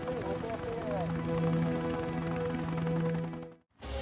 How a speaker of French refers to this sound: Stateline, au Nevada, en 1980. Le pilote d'un hélicoptère du FBI scrutait un segment de 25 km de l'autoroute 50 à la recherche d'un signal.